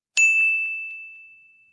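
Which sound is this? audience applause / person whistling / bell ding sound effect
bell ding sound effect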